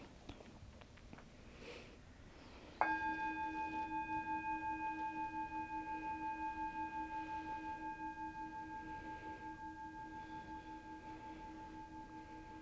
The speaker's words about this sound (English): Let's start with one bell.